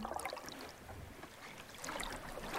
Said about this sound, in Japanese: 波の音がお昼よりもゆったり聞こえる。優しくお母さんがなだめてくれるみたいに。